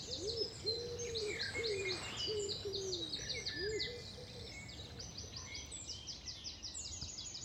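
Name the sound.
common wood pigeon cooing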